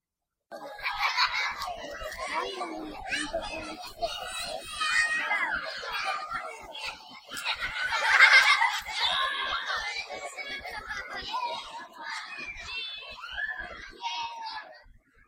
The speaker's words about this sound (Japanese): 蔵の中で立ち尽くす私たちに、庭で遊ぶ子供たちの明るい声が聞こえてきた。